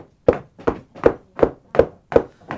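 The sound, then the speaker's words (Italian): Seven steady knocks on a door, evenly spaced and fairly loud, each a solid hollow thud with no voices in between. “Gesù sta bussando, lo vogliamo far entrare?”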